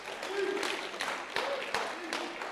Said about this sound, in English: Awesome, you guys. Let's give them a clap, hey? Yeah.